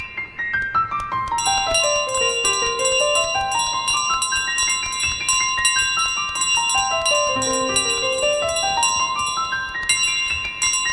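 Church bells ring out in a continuous peal, several tuned bells struck in quick cascading runs that fall and rise again, loud, with no voices.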